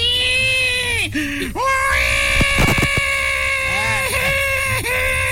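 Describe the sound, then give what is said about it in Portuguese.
A voice imitates a tiny newborn baby screaming as it is born, with sustained, high wailing cries broken by brief gasping pauses, loud throughout. “Daquele tamanhozinho. Já nasceu gritando.”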